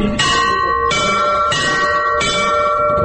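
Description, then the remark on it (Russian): Two small chiming church bells (podzvonnye bells) are rung in alternation by a person learning bell ringing, four clear bright strokes at a steady pace, each ringing on and overlapping the next. Fairly loud, with no talking. “Теперь добавьте вот эти два подзвонных колокола. Первый, второй.”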